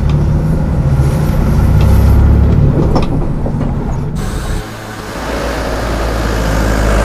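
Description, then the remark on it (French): A bus drives from Donant beach back to Le Palais on an island, with a steady, loud engine rumble and road noise throughout; the tone shifts abruptly partway through, like a change of gear or road surface. No one speaks. “Après avoir profité de cette belle plage de Donant, nous reprenons le bus pour revenir au palais où nous allons descendre à la porte de Bangor.”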